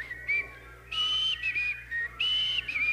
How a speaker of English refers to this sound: Andy Griffith's show came out October the 3rd, 1960. Can we all whistle this real quick?